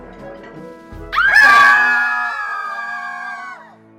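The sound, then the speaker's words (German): A sudden burst of high-pitched screaming from dancers in a tavern swells up after a moment of quiet, holding loud and sustained for a couple of seconds before fading out, like several people shrieking together. “Schreitet er durch die tanzenden Reihen, bis alle die Tanzenden anfangen zu schreien.”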